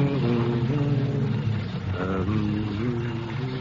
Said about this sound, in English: A car drives up to the pump.